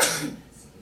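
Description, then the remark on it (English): A single quick sneeze bursts out, a sharp breathy blast that fades within a fraction of a second, with no talking around it. “Bless you.”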